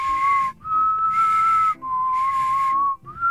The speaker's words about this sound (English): It's as high as I can get. That's a tongue whistle.